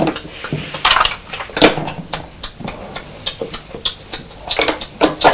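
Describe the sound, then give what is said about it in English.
A child imitates a car's indicator with a run of sharp, bright tongue clicks, a fairly steady tick-tock repeated a dozen or more times with no talking. “Oh, I like the noise that you're making for the indicators. That's really good. You're tick-tocking nicely, aren't you?”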